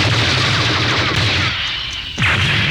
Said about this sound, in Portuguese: Pon en marcha o modo de inducción. Centra o obxectivo na pantalla. Dispara. Vai a modo. Volve a centrar. Disparo.